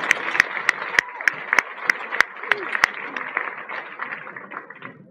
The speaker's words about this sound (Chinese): 这样，我们请康乐法师到台里给他讲几句，好不好？直接借你这个话筒，掌声再热烈一点吧。